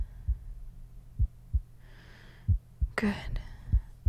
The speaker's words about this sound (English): Press your ear to the center of my chest. Here. Just above my cleavage. Can you make out a heartbeat?